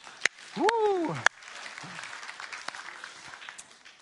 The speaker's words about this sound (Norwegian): Skal vi gi en liten applaus bare for det?